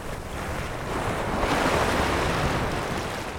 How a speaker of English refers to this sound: Here and Now's Peter O'Dowd takes us to the Pacific side of Costa Rica. In a town called Punta Morales, the wind howls across the shoreline.